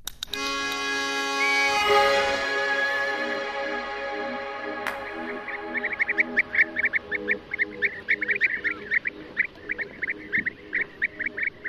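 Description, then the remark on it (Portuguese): A steady harmonic tone opens, then a nesting colony of European bee-eaters breaks into rapid, repeated liquid trilling calls, overlapping in a busy, rhythmic chorus. “É uma ave que gosta de comer abelhas, daí o nome Abelharuco, nidifica em colónia e continua a fazer as delícias dos fotógrafos da natureza, dos investigadores e também dos observadores da avifauna selvagem.”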